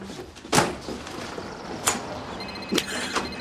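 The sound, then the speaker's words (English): A back door opens with a few sharp clattering bangs, one hard knock followed by lighter thuds spread over a few seconds, with no one talking, as a person runs headlong out of it. “runs headlong out a back door while the handsome doctor's back is turned.”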